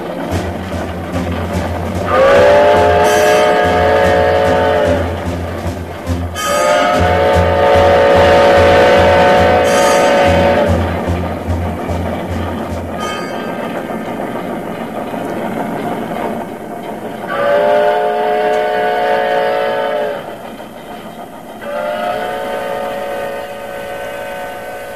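An old steam locomotive chugs with a steady, rhythmic low puffing that fades out midway, while its whistle sounds four long, sustained, loud blasts, two early and two near the end.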